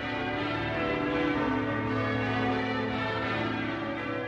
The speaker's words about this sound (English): There's something very confident about the sound of the bells of York Minster.